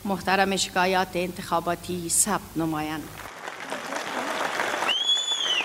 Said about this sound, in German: Die Anhänger von Präsident Ghani nahmen das Ergebnis mit großem Jubel auf.